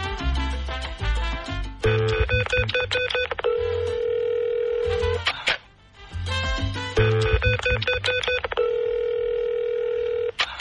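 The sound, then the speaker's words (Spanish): Rapid telephone keypad tones are punched in on a coin-operated street payphone, followed by steady, sustained ringing tones, then another round of quick dialing beeps and a long ring, loud with no talking. “Esos teléfonos de la calle cuando uno le tragaban la moneda.”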